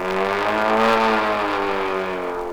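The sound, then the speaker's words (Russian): A steady, fairly loud aircraft engine drones on without a break, its humming tone sagging slightly in pitch over a couple of seconds, with no voices present. “Гудит мотор, хороший июльский вечер, в лицо струит воздушная волна.”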